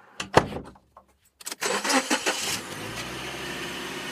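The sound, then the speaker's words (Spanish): A few clicks and a brief cranking, then a reporter's car engine turns over and catches, settling into a steady, rumbling idle, as she sets off during the coronavirus pandemic for La Palma, a town five hours from Bogotá. No one speaks. “Por eso, en plena pandemia del coronavirus y con tapaboca puesto, decidí irme en mi carro hacia La Palma, un pueblo a 5 horas de Bogotá.”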